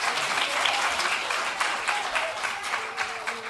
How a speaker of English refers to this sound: Thank goodness. You took all my time with applause.